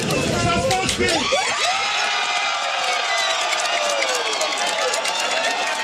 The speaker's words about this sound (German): Und trotzdem, man hat es eben im Hintergrund schon gehört, die Leute haben gejubelt. Ja, da war irgendwie Jubel.